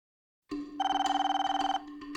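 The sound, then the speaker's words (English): An old-fashioned telephone bell rings loud, a rapid metallic trill that rattles steadily for about a second before stopping, with no voices present. “The phone rang one day, just before they opened, and it was the curator.”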